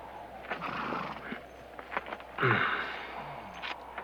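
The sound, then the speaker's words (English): A horse snorts and gives a short, breathy whinny midway, with a few scattered hoof clops and shuffling, as its rider dismounts and tethers it after crossing a stone bridge in flat, stony, dusty land under harsh sun, then checks a mule's hoof. No one speaks. “Crossing over a stone bridge, Hogan dismounts, tethers his horse and checks the mule's hoof.”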